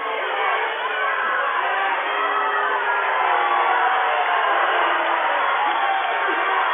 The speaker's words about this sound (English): And we got some razzle-dazzle going on here, some anger. As the crowd reacts to the circumstance.